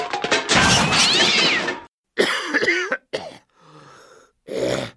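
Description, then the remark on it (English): A cat being wrapped in a towel to be given a pill lets out a loud, harsh yowl, then a series of shorter strained meows and caterwauls with rising and falling pitch, separated by brief pauses; no one speaks. “Wrap your cat in a large towel and get your spouse to lie on the cat with a head just visible from below the armpit.”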